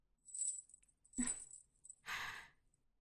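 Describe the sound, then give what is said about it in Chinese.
Quiet metallic jingling of keys in two short bursts as they are put away, with a soft clink in between, followed by a brief breathy rustle, with no talking. “那我就先把钥匙收起来了。”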